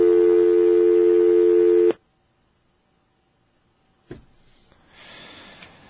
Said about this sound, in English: And that dial tone, boy, that brings back memories, too. When I was a little kid, I remember the dial tones used to sound like that. You know, they had that sort of harsh sound. You know, not like this.